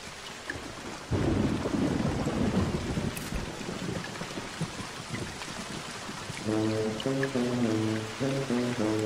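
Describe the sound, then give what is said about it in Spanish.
Steady rain hisses throughout, with a deep rumble of thunder rolling in early on; near the end, sustained musical tones rise over the downpour. No one speaks. “La lluvia cayó.”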